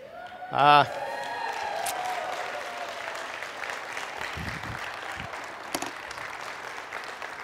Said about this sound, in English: Those of you who have no idea what people are clapping about is just the fact that I made it up here without falling down on the stairs.